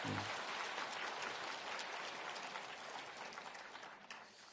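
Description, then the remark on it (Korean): A crowd applauds steadily for several seconds, a dense wash of many hands clapping at once that holds strong before thinning slightly toward the end. “박수?”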